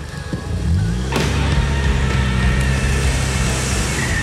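A car engine revs up sharply as the car is thrown into reverse and backs fast out of a dirt turnaround, tires spinning and churning loose dirt and gravel in a loud, gritty rush with no voices.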